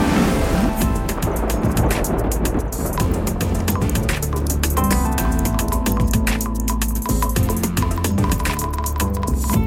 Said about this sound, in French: Route défoncée, canalisation arrachée, presque rien n'a résisté à la puissance de l'eau. Voilà, c'est un ruisseau, puis on ne se doute pas que 20 minutes plus tard, ça devient un torrent.